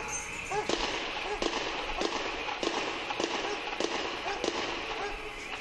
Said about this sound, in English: There's explosions and gunfire going on down the street.